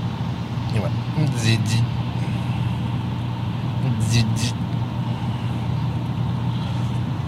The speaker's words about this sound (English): Did you hear it? That was the Passover scale, or you basically keep driving and it weighs your truck. And I actually picked it up on the recorder there. Can you believe it?